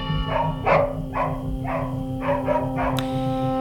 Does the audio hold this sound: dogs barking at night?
yes